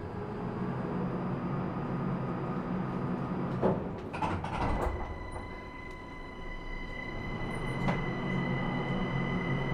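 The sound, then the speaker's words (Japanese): A Linimo maglev train bound for Yakusa, next stop Hanamizuki-dori, in motion: a steady rumble with a high electric whine, broken by a few brief clatters and knocks midway. “リニモをご利用くださいましてありがとうございます。この電車は八草行きです。”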